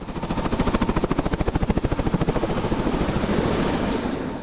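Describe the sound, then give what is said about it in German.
A helicopter's rotor thumps in a fast, steady rhythm, loud and heavy, the beat gradually smoothing into a continuous roar as the engine whines underneath, as the helicopter takes off and climbs over the stone roofs of Biñasco. “Der Helikopter steigt auf über den Steindächern von Biñasco.”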